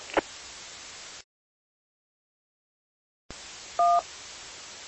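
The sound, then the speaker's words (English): A burst of two-way radio static cuts to silence, then the static returns as the calling station keys up and a short, loud two-tone roger beep sounds over the hiss before any talking. No one speaks. “Be advised, you got almost like a Roger beep or something before you start talking. As soon as you key up, it's beeping.”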